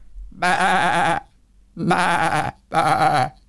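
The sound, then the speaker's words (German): A person imitates a goat, giving three wavering, nasal bleats in a row, the first two longer and the last one shorter, loud. “Ja, du hast recht, das war eine Ziege.”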